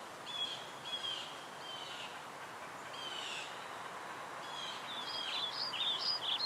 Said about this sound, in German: Ganz leise hörst du die Vögel singen, hier und da das Rascheln der Blätter und das sanfte Knacken der Äste.